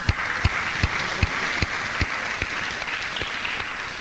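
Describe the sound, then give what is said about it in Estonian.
A church audience applauds its volleyball team, winners of an inter-audience volleyball tournament in Kehra: a dense wash of many hands clapping with a few sharper, louder claps standing out at irregular moments, no voices heard. “Ja kes te mängisite, olete täna siin, kes te tõusete hetkeks püsti, me tahame teid näha ja võibolla teeme väiks aplausi ka.”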